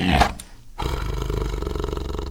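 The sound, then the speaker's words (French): Three hungry caged tigers roar: a short snarling burst opens, a brief lull follows, then a loud, deep, rumbling roar that holds steady to the end, with no voices. “Le voilà bloqué dans cette pièce avec 3 tigres affamés.”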